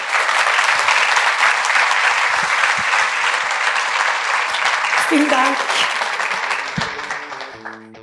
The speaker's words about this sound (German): und das ist Ihr Applaus.